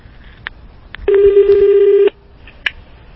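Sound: telephone dialing and ringing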